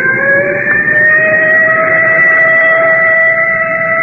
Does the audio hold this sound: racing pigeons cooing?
no